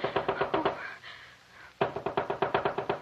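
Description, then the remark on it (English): Rapid, insistent knocking on the door of a doctor's house: a quick burst of raps, a brief pause, then a longer run of steady, urgent knocks. No voices. “Is anybody home? Oh, please come to the door.”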